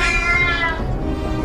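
A single drawn-out cat meow, loud, its whiny tone sliding down and fading slightly toward the end, with no talking around it.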